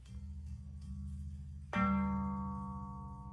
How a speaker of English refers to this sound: There's like a D, what's that gonna be, a D6 that you can get as well. You can get a low tone, which is kind of like E1 on the piano. There's all these different harmonics you can get from just this one piece of metal.